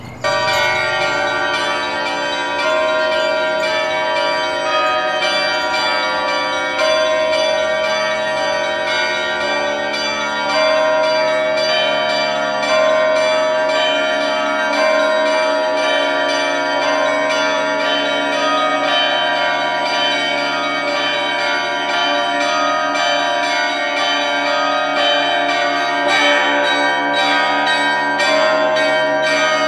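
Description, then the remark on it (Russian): A full, festive peal of ten church bells, small chiming bells, middle bells and large bells, rung together as one ensemble, dense overlapping strikes of high and low bells sustained loudly and continuously throughout, with no voices. “Давайте соберем все колокола, все 10, и зазвонные, и подзвонные, и благовестники в единый ансамбль.”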